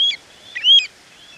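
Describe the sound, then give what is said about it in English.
Clear, high whistled calls of a Pacific golden plover: a short note, then a brighter rising-and-falling whistle with a quick flourish, against a quiet background with no talking. “Birds like the Pacific golden plover we're hearing now.”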